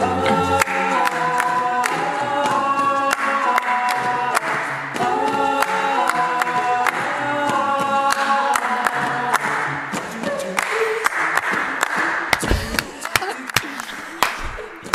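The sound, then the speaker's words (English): Loud, steady audience clapping beats along throughout, sharp claps piling over harmonized a cappella singing at a 2018 concert and nearly drowning out the voices. “Clapping any louder. It's so loud.”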